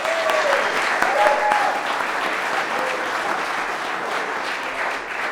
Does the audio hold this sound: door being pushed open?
no